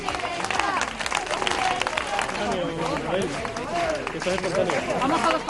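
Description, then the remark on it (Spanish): Residents in Boadilla shout and cheer in support of Ayuso before she opens the town's new public library, many voices overlapping continuously at a steady loud level, with scattered clapping mixed into the noisy, excited din. “Ayuso recibida con gritos de apoyo de los vecinos antes de inaugurar la nueva biblioteca pública de este municipio.”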